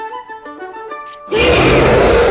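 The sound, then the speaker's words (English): A loud, rough roar bursts in after a short stretch of light, tinkling tones and holds steady and forceful to the end, filling the sound; a mighty roar made to scare off a butterfly. “He roared with fearsome force.”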